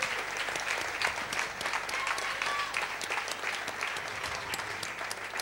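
A sustained burst of audience applause welcoming all the young-category singers onto the stage, many hands clapping in a dense, steady wash of noise that holds at an even, fairly loud level throughout, with no one speaking over it.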